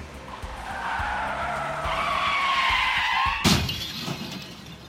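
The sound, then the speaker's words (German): A long, rising tire screech from two skidding cars on a street cuts off in a sudden loud crash with breaking glass, followed by a brief rattle of debris; both cars are wrecked. No one speaks. “Zum Glück ist niemand verletzt. Aber die beiden Autos sind ganz kaputt.”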